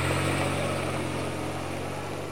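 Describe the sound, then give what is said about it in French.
A chauffeur-driven car starts and drives off, its engine rumbling steadily with a low, even drone, easing off slightly in loudness toward the end. No voices. “La voiture démarre.”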